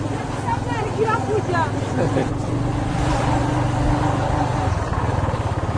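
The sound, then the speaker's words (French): A vehicle engine drones and strains steadily as it slows and its wheels slip on a muddy road, a continuous rumble with faint voices in the background. “Oh là là là, ça patine, mais ça passe.”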